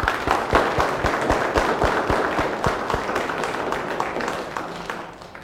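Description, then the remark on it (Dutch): A church audience applauding itself on a count of three for the church's 60th anniversary: dense, steady clapping from many hands for several seconds, with a few sharper claps standing out before it tapers off near the end. “In mijn optiek hebben we allemaal een applaus verdiend. Dus op 3, een applaus voor jullie allemaal, ja?”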